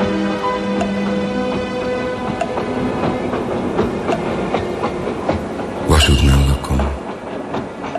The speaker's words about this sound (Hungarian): Sok vonat jön-megy, és ellennézem, hogy szállnak fényes ablakok a lengedező sötétben.